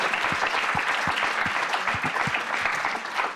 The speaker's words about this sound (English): So I just wanted to make sure we gave the panelists a huge round of applause before we sign off. Thank you. Thank you.